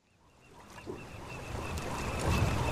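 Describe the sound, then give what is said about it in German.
Outdoor harbor ambience rising gradually in volume as someone walks to the harbor, with a low rumbling wash of water and boats, a faint steady tone overhead, and bird calls like geese or ducks. “Ich gehe jetzt an den Hafen.”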